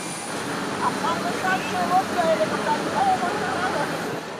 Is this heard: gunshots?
no